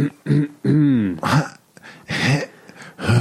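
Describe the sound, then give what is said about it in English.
A person coughs and clears their throat a few times, harsh bursts broken by short voiced, groaning sounds between them. “I'm actually coughing.”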